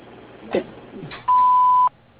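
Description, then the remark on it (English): A single steady, mid-pitched electronic beep sounds for about half a second, loud and clean, the answering machine tone that signals the start of a voicemail, after a couple of soft rustles. “So at the tone, please leave a message along with a detailed message, and I will get back to you.”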